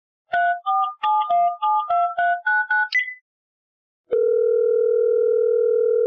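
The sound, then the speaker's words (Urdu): A quick run of about ten short electronic keypad beeps at shifting pitches, a second of silence, then a loud, steady telephone dial tone that holds unbroken to the end, as a call is placed to caller number 98. No one speaks. “جی team سے درخواست ہے کہ کال ملائیے کالر نمبر 98 سے.”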